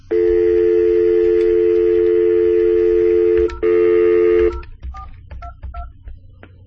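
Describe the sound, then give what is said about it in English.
A steady dial tone hums loudly for a few seconds, breaks briefly, resumes, then gives way to a quick series of short, distinct keypad beeps as a phone number is dialed to call a second phone that has Do Not Disturb switched on. “So if I make a phone call now.”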